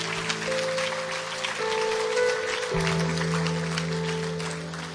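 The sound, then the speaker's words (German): A church audience applauds steadily during a service, a dense, even patter of many clapping hands, while sustained low keyboard chords hold underneath and shift pitch a couple of times. “Liebe Gemeinde, lass uns ihnen einen Applaus geben für diesen Schritt in ihrem Leben.”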